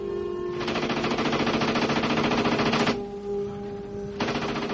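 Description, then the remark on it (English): The guns of two tanks in battle, a swiveling turret gun and a second tank's gun, rattle off rapid automatic fire in two long, loud bursts, with a short pause between them, over a steady low mechanical drone. “As fast as they fall, the second tank's gun picks them off.”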